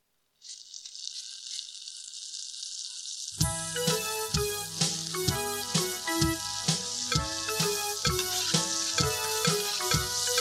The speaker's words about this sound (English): Five fat sausages sitting in a pan. 5 fat sausages sitting in a pan. Sizzle, sizzle, sizzle.